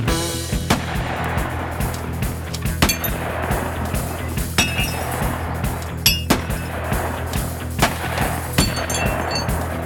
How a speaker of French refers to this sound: C'est un 22 long rifle loué à un type lors d'une fête foraine. Tinguely et elle n'ont pas assez d'argent pour en acheter une, mais le désir est là, intense, et leur idée précise. Et bien deux jours plus tard, la fusillade commence.